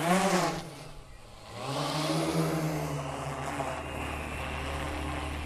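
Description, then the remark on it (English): A remotely controlled helicopter-style drone's motors whine, dip briefly, then spin up with a rising pitch into a steady, loud buzzing hum as it takes off into the sky over a strawberry farm near Bribie Island, used to airdrop predatory mites into the field. No one speaks. “On a strawberry farm near Bribie Island, a helicopter-style drone takes off into the sky.”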